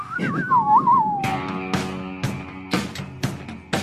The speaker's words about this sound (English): Come on, where's that whistle? I can't get it in the right key.